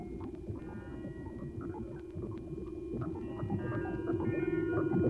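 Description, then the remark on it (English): A man's voice heavily muffled by a low-pass filter removing all frequencies above 375 cycles per second, with all clarity stripped away. The speech becomes a steady, boomy, indistinct murmur that drones on for several seconds at moderate volume. “Now we have filtered out all frequencies above 375 cycles per second.”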